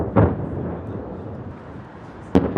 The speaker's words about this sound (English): On Kyiv's central Maidan Square, just before noon, an air raid alert. Within minutes, the sound of explosions.